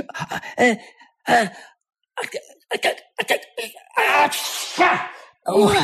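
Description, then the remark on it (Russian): Karlsson's run of loud, exaggerated sneezes, which raise a cloud of dust from the floor, with gasping intakes, short voiced bursts broken by brief pauses, building to one long, hissing, breathy blast before a final sharp burst. “Карлсон, от твоего чиха с пола поднимается целое облако пыли.”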